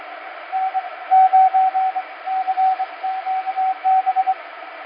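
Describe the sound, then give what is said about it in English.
An amateur radio transmission, supposedly from a station in Mongolia a long way off: a steady mid-pitched Morse code tone keys on and off in uneven dots and dashes over a constant hiss of band-limited static, with no voices. “That's supposedly Mongolia. That's a long ways off. I've worked that guy before.”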